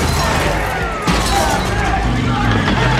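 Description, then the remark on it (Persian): A police car siren wails with rising and falling tones through loud, dense vehicle noise and a sharp crash, while voices talk faintly underneath. “صدیب ماشین پلیس.”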